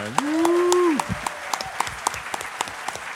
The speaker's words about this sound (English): Ladies and gentlemen, a round of applause for